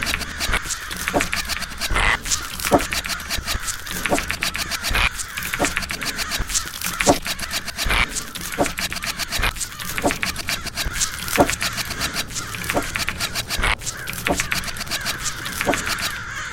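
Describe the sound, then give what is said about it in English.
Harsh cawing of zombie crows in a video game battle repeats through a busy, layered game soundscape, with scattered sharp clicks and rustling hits punctuating steady background noise, like a continuous battle scene. “Elian gets plants. Zombie crows. No, not you again. Battle begins.”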